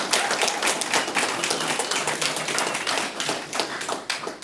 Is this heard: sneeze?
no